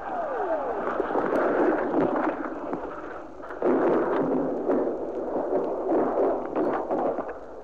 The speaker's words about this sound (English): It happened to Pierpoint that night. On this recording, you'll hear the whoosh overhead, the explosion, and then Pierpoint.